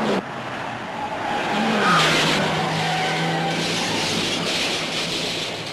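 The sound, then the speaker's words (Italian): A car roars with loud, continuous engine and road noise while its tires squeal in a sustained skid lasting several seconds as it crashes into a police car. No voices are heard. “Guarda che roba, siamo andati a finire dentro la madama.”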